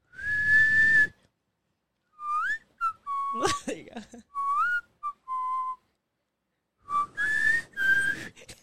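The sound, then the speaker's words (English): A person whistles a song melody, a string of clear sliding notes in short phrases with brief pauses, and a voice speaks briefly between phrases. “Yeah, you whistle it a lot.”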